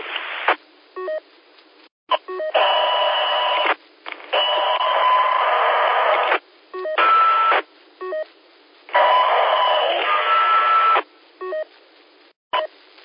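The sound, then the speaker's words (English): Bursts of two-way radio transmission with hissy static, cutting in and out abruptly with short silent gaps, plus brief tones and clicks between transmissions; band-limited, radio-like sound throughout. The radio is being tested with squelch during a long count. “Okay, what I was talking about is without transmitting, see if the squelch knocks out all the background static. No static unless somebody's transmitting to me.”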